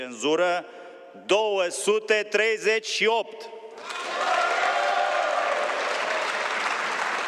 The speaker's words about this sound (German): Als das Ergebnis des Misstrauensantrags bekannt gegeben wurde, brach bei den Abgeordneten der Opposition Jubel aus.